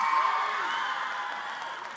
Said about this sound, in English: No other service clap for themselves, okay? I just want to make that clear, but this is why I love you. Y'all are a clapping bunch, and keep it coming, all right?